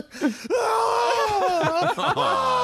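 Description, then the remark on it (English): A person lets out a loud, sustained scream that wavers in pitch for about two seconds after a short vocal burst, strained, with no other talk. “Why are you screaming?”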